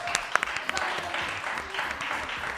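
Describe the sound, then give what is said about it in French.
A theatre audience applauds a member of the theatre crew steadily, a dense wash of many hands clapping with a few sharper individual claps standing out near the start, sustained at moderate loudness throughout. “Vous pouvez applaudir Jean-François.”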